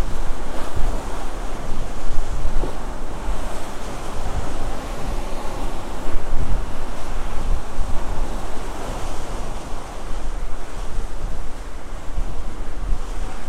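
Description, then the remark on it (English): Steady roar of open-sea waves and gusting wind, heard from aboard a large ship on the ocean, loud and continuous with a low rumble, the wash swelling and easing without pause; no voices. “You sort of feel like a little speck of squishy life precariously perched on this construct that's floating improbably on this immense ocean that's been here way before us and will be here long after we are not.”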